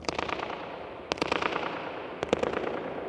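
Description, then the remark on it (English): Sharp hand claps from a man standing on the floor inside a dome ring out, each one followed by a rapid fluttering echo that rattles back and forth before fading into a long, washy tail. “And if I clap on the floor, bang on my foot.”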